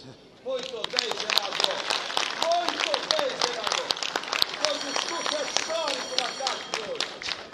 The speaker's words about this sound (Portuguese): Aqui está o senador humilde, um homem do povo, um brasileiro, que se levanta neste momento, representando o seu estado, o estado do Pará, para lhe aplaudir mais uma vez de pé, senador Aécio Neves.